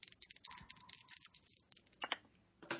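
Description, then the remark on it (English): Percentile dice rattle and clatter across a hard surface in a quick flurry of small clicks and taps, moderately loud, with no talking; everyone rolls them for a luck roll. “As you're walking in, I want everyone to give me a luck roll. So roll your percentile dice.”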